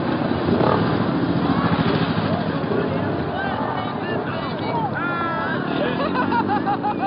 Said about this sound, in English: They made their entrance, their presence known, by roaring through the crowd on their choppers and parking the bikes around the stage.